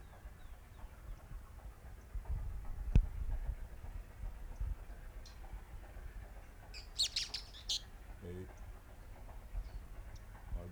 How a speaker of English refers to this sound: Three birds.